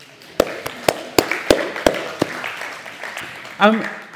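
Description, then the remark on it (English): A church audience gives itself a round of scattered claps, about eight sharp, uneven slaps over a few seconds, with murmuring voices underneath and a brief vocal exclamation near the end. “So why don't you give yourselves a clap?”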